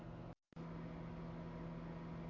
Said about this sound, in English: Oh yeah, no, that's a microwave. I hear it. I'm gonna go with microwave.